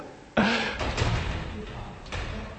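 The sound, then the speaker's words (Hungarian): A door is pushed instead of pulled and hits with a sudden, loud thud, followed by a few softer knocks and rattles as it is shoved again. “Az ajtó egy új kihívása.”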